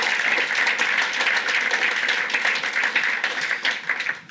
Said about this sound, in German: Ja, wir können Jesus einen Applaus geben.